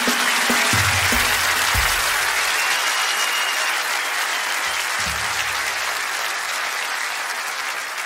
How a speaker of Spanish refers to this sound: Un luchador, un aplauso para maestro.